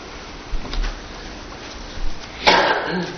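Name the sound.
sneeze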